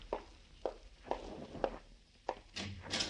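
A handful of soft, evenly spaced footsteps, followed by brighter clicks and a rustle near the end as a door is opened for a visitor.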